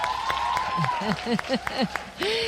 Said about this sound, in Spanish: Bueno, pues aquí si tuviéramos, ¿verdad?, algo que midiera los aplausos, está la cosa muy igualada.